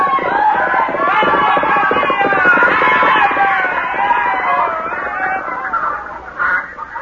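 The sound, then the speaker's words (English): A loud, rowdy crowd uproar of many overlapping shouting voices during a raid, with chickens the raiders have grabbed clucking and squawking through the din, sustained for several seconds before thinning slightly at the end. “Brother, what a row. Look at all the chickens and things they've grabbed.”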